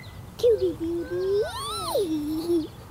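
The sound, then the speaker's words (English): A single drawn-out bird call, clear, sliding up in pitch and then back down over a couple of seconds against quiet outdoor background noise. “I love you, bird. Do you guys hear that?”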